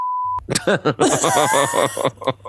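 A single short, steady censor bleep rings out clearly at the start, a pure electronic tone lasting under half a second, immediately followed by animated voices.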